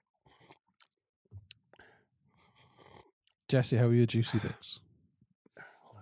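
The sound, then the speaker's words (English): Wet, smacking slurping noises come in short irregular bursts, followed by a loud voice and then a few more faint mouth sounds. “It sounds like you're slurping them.”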